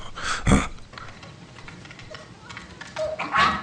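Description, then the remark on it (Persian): A small dog barks restlessly, a loud sharp bark near the start, then quieter scattered noises and a couple of short whiny yelps toward the end. “برید ببینید این سگ چرا اینقدر بیتابی میکنه.”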